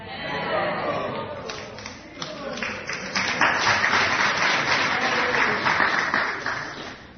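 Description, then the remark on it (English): A crowd applauds continuously, dense clapping swelling louder after a few seconds amid murmured chatter and cheers, sounding like a lively audience. “Clapping for you.”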